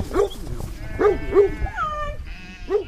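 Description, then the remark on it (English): Several black Welsh mountain sheep from a rare flock bleat in overlapping, wavering calls on a sunny morning at Desert Weir, a 40-acre sheep farm outside Paonia, Colorado, with short baa sounds repeating irregularly over a low outdoor rumble. “They raise black Welsh mountain sheep.”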